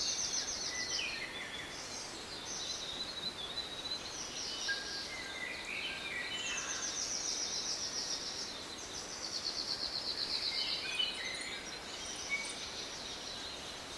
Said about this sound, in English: Feel the shady coolness of the forest. Hear the endless happy bird song all around you.